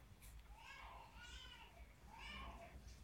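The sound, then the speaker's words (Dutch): A five-month-old baby cries in the background, two drawn-out wavering wails a moment apart, soft over low steady room noise. “Horen jullie dat geil op de achtergrond? Dat is mijn kindje, mijn babytje van 5 maanden.”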